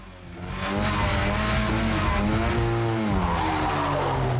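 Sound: car driving away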